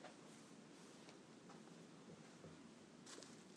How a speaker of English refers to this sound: It's it's rained itself out now. It hasn't stopped, but it's slowed down a hell of a lot.